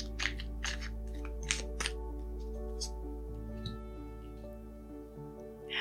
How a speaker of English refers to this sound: Okay, so I'm going to shuffle these cards and see what we need to affirm today.